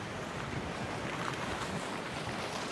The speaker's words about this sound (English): Windy day.